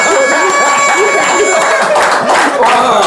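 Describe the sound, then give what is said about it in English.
A crowd cheers and applauds in a loud, continuous roar of shouting voices and clapping that holds steady for a few seconds, with faint sustained tones running underneath. “Make some noise for a whole beat of Brooklyn”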